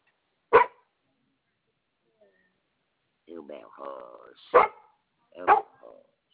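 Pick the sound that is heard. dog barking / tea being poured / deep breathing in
dog barking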